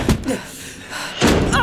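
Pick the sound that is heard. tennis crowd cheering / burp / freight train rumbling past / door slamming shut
door slamming shut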